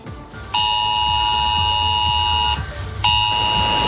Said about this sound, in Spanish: Este es el sonido que se ha escuchado en las últimas horas en los móviles de los vecinos de San Javier y de los Alcázares. Ha sonado el aviso de Esaler, una alerta para que se extreme la precaución.